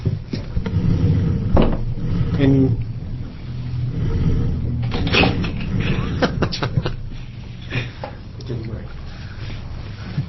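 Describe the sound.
Chairs being moved as the next panel comes up and gets a couple more chairs: a series of scraping clunks and knocks, several sharp bangs clustered in the middle, over a steady low rumble with scattered talk in the background.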